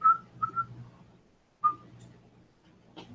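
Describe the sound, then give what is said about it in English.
A person whistles quietly, a few short soft notes at a steady mid pitch, separated by brief pauses, with faint low background noise underneath. “I'll quietly whistle.”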